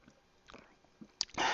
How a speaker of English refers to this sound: I drink during the podcast. I drink water. Like right now, I'm gonna take a sip.